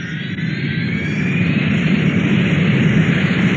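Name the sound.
airplane engine roar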